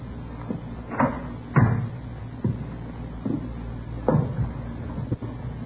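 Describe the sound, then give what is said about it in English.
An apartment door is rattled and worked open, a series of knocking, clattering thumps at uneven intervals over a low steady hum, with a couple of louder bangs among them. “Better try the door, huh?”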